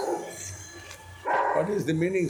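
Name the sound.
dog barking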